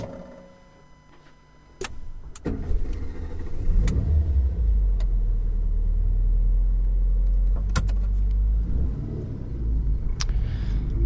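A car sound effect for a traffic report (Infotrafic): a car engine starts up and settles into a steady low rumble, with a few sharp clicks and knocks, no voices present.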